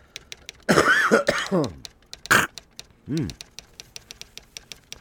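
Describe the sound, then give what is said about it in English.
Several harsh coughs and throat-clearing rasps come in a cluster, ending with a low grunting clear, while a steady light clicking, like typing, ticks along in the background. “I'm gonna cough.”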